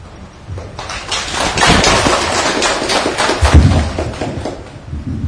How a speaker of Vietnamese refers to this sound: Chúng ta là chúng vừa được SCN chia sẻ của thầy, thì chúng ta lại cho một tràng vỗ tay nữa.